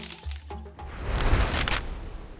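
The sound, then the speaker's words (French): A coconut palm shakes as Sapajou, the smallest of monkeys, waits for its lunch: branches creak and crack amid a broad, rustling swish of trembling leaves, with a few sharp snaps early on before the rustle swells and lingers. “Un cocotier s'agite. Les branches craquent, les feuilles tremblent, et on entend des cris, des cris.”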